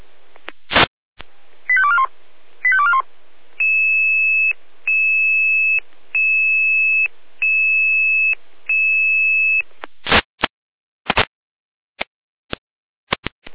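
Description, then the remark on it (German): Fire brigade dispatch alert tones from Jena over radio, alerting the volunteer fire brigade of Lindig to a fallen tree: a couple of quick warbling chirps, then five long, steady high beeps evenly spaced, framed by sharp clicks and bursts of static, with no talking. “Jena mit Alarmierung.”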